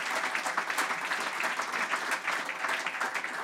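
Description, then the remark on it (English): A room full of people clapping steadily in applause for Moya Dodd for her work for women's football, a dense rattle of many hands at a fairly even level throughout, with no voices standing out above it. “Yes, round of applause, please.”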